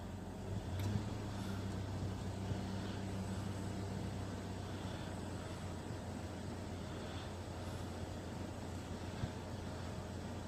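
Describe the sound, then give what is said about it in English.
A car engine rumbles outside, a steady low drone that holds for about ten seconds at a fairly even level, with no voices. “I bet that's the fucking cunt who owns that car.”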